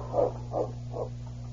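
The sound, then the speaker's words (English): A dog, King, gives three short whimpering barks in quick succession, each fading a little, over a steady low background hum, while following a trail in the snow in a heavy wind. No one speaks. “Though the wind covered the tracks with loose snow, the great dog King kept on the trail.”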